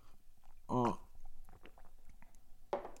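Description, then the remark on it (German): Quiet mouth noises of someone sipping coffee from a cup: soft slurps and a swallow, bracketed by a short voiced hum and a satisfied exhale. “Sorry, mal kurz von meinem Kaffee hier nippen.”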